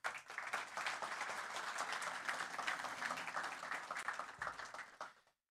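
An audience applauds steadily for about five seconds, a dense, even patter of many hands clapping at once that fades out quickly at the end. No one speaks over it.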